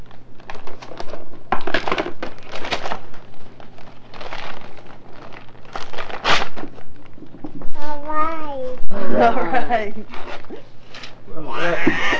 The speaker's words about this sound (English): Get all that paper off. Rip that package open.